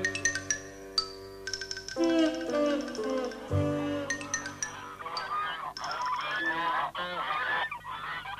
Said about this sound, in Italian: Porta a pascolare le oche.